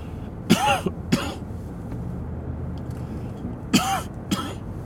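Two pairs of harsh coughs with throat clearing, each a quick double burst, separated by a pause of low background hum.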